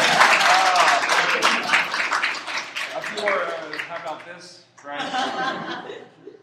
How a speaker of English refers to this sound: No, you have to keep going. Come on, one more clap.